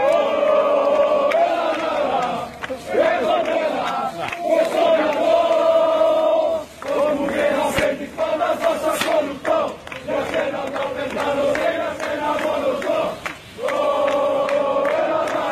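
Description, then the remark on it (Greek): A large crowd of Greek football fans on Lonsdale Street in Melbourne chants pro-Greece slogans in unison while lighting flares and smoke bombs, loud rhythmic phrases repeating with short breaks between them, voices blending into a strong, steady roar. “Εκεί πέρα έκλεισαν την κυκλοφορία των οχημάτων, άρχισαν να φωνάζουν συνθήματα σαν και αυτά υπέρ της Ελλάδας.”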